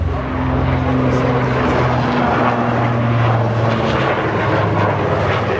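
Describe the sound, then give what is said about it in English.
A large Swiss Air Force Super Puma military helicopter roars overhead during a flying display, banking and dipping, its engine and rotor producing a loud, steady drone with low humming tones that shift slightly as it maneuvers. “The Swiss Air Force's Super Puma careens through the air, banking and dipping, giving spectators an idea of what a helicopter is capable of.”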